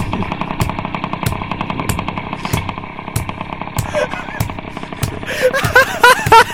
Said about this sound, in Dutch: Tot die tijd kunt u luisteren naar het geluid van een stationair lopende motor. Onder begeleiding van het slaan op een mayonaise-emmer.